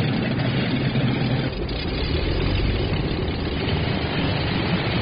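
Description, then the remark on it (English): A heavy piston engine of a World War II aircraft from Buffalo Airways' vintage fleet drones steadily, a loud, rough low-pitched rumble with a throbbing pulse and a brief dip partway through, with no voices. “It's what pulls him to Buffalo Airways' vintage fleet of World War II piston pounders.”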